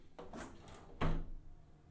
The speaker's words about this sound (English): Now, because it's a little hot in here, I'm going to open this window.